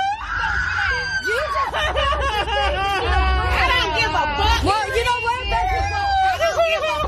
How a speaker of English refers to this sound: And this is when the consequences for her actions catch up to her. This is one of the most satisfying cries I've heard in a long time.